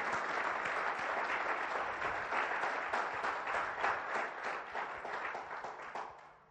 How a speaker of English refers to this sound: We'll let you clap for that.